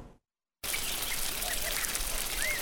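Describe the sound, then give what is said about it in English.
After a moment of silence, sprinklers drizzle water onto rows of agave seedlings in a steady hiss at a ranch near the eastern edge of Sonora, Mexico, on a hot, cloudless day, with a few faint bird chirps in the background. “Sprinklers drizzle onto seemingly endless rows of agave seedlings at Rancho Las Canoas near the eastern edge of the Mexican state of Sonora.”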